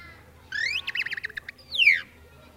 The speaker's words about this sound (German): Nun, was wollt ihr denn hören? Ein Gewitter? Ja, na ja, aber vielleicht hört ihr doch lieber eine Meise.